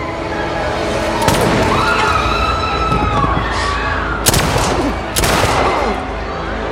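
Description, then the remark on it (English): Three sharp, loud gunshots crack out at irregular moments, the last two close together, over a constant noisy backdrop with a wavering, siren-like tone and faint voices. “She aims at Thursday and Joe shoots her.”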